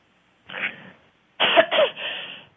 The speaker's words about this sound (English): Oh, my. Okay. A coughing somebody.